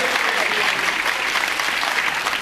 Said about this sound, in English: Oh, that was Leicester getting a round of applause all of a sudden. They love Leicester.